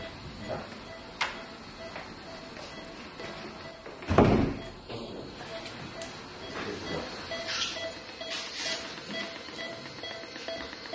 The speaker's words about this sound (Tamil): மரக்கதவு.